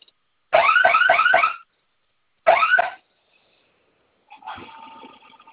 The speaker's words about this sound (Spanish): Se va a activar su sirena y me ayuda a colocar su clave, por favor.